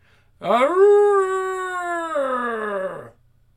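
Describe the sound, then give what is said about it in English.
A single long wolf howl rises sharply, holds a steady, rich wavering note, then slides down and fades out after about two and a half seconds, loud, with no voices. “I don't know if that's a wolf or a fucking bat. It looks like a fucking werewolf.”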